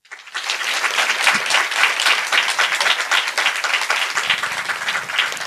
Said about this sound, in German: Jetzt euer Applaus